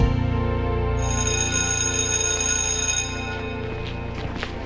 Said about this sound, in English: We'd better not delay any longer, because we're heading to Coleraine High School, and I think the bell's about to ring.